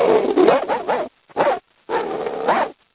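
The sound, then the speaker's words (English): A person imitates a dog with a few voiced barks and yips in quick bursts, separated by short pauses, loud and alone without other talk. “So I decided to, you know, do some sounds, and so I decided to bark a little bit, you know.”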